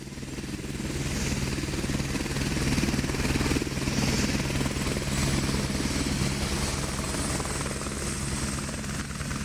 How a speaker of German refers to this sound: Es ist fast Mitternacht. Über dem Eisfjord am 78. nördlichen Breitengrad hebt ein Helikopter ab.